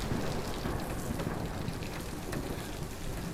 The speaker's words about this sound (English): Right, I'm not used to the rain. do you mind if I waited out here for a bit? Looks like it's getting worse out there.